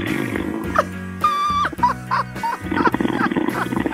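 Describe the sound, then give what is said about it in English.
Loud, rasping snores from a caller who fell asleep on the line during a call-in to After Hours CBS Sports Radio: a series of low, growling breaths with buzzing tones and a brief whistly wheeze in between, with no talking. “You had a guy call up that was snoring on the phone, and your laugh was just cracking me up.”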